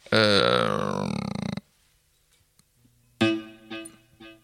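A loud, buzzy electric guitar note rings out and cuts off. After a short silence, a few quicker notes follow, each trailing into fading echo repeats from an external delay pedal.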